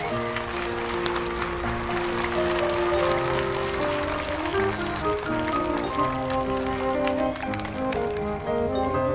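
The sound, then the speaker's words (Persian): Dense, steady applause from a crowd for the winner of a World Children's Day drawing competition, a continuous crackling patter of many hands clapping at even loudness, with sustained musical tones running underneath throughout. “دوباره تشویقش کنی.”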